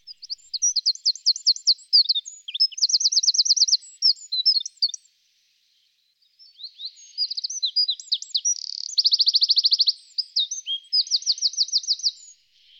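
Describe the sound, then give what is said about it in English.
A wren, a tiny songbird, pours out two loud, rapid bursts of song, full of fast trills and sharp high notes, separated by a brief pause. Clear, with no voices. “The wren is one of the smallest birds in Britain, and possibly the loudest.”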